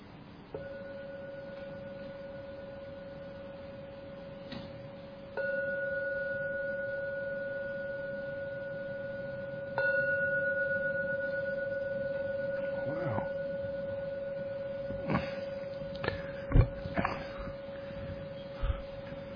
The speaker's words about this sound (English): So now I'm going to ring the bell 3 times. And that is to signify the end of the meditation.